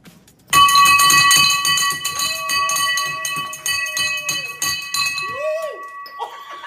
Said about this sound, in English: was excited to finish her last round of radiation treatment for breast cancer that she broke the bell while ringing it. Listen to this.